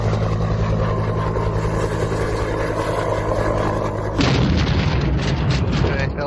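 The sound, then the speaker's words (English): A Coast Guard-type rescue helicopter crashing: a steady, droning engine hum with low tonal whine runs for about four seconds, then a sudden loud crash erupts into harsh, roaring noise that persists. “A rescue helicopter has crashed.”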